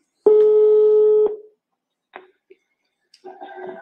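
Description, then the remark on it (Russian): A single steady telephone tone sounds for about a second, loud, as a man places a phone call, followed by a few faint clicks and then the muffled start of a voice on the line. “звонит по телефону. Сейчас послушаем.”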